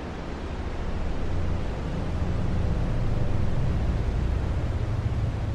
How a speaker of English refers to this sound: The first sound in the universe is joylessly underwhelming. White noise, boring through the taffy stretch of nascent space. The Big Bang is not a bang, but a droning robotic purr.